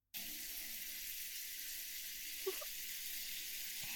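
A shower sprays steadily, a continuous hissing rush of water used to rinse someone off, starting abruptly and running without pause, with a faint brief knock partway through. No one speaks.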